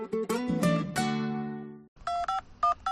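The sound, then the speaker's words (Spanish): A ringing, harmonic tone fades out, then a quick run of about five telephone keypad beeps follows as a caller dials, clear, each short tone pressed in an uneven rhythm with no talking. “Hola, llamaba para preguntar por el golf.”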